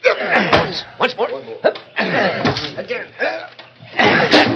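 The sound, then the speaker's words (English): Eight or ten men strain and grunt while heavy thuds hit a wooden door, a few sharp knocks landing in quick succession as they push to force it open, fairly loud. “8 or 10 of you push that door in and get to work.”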